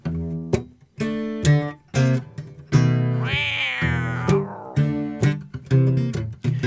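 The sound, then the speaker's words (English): A cat meows over and over in short, loud bursts, with one long drawn-out yowl rising and falling in the middle before the quick meows resume. “Hey, we were doing things about dogs. What about a cat?”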